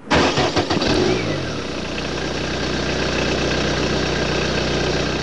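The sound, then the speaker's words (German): A diesel car engine cranks and catches within the first second or so, then settles into a steady, rumbling idle with a low rhythmic clatter that runs on unchanged. “Das ist ein klassischer Diesel, also mehr der Spartyp.”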